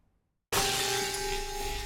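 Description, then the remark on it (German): After a brief silence, a sudden loud crash as a hammer smashes a television screen, followed by a sustained burst of shattering, crackling noise with faint steady ringing tones underneath. No one speaks. “Ja, in meinem Fernseher steckt ein Hammer.”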